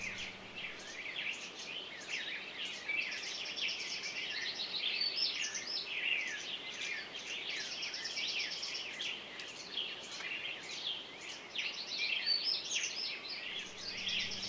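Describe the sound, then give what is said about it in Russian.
A chaffinch sings amid a busy outdoor bird chorus, with bright, rapid trilling phrases repeating steadily over a soft background hiss, moderately loud and continuous throughout, with no voices. “Слышу зяблика с утра, дней погожих вестника, как свежа и как бодра радостная песенка, как душе она родна, с детских лет любимая.”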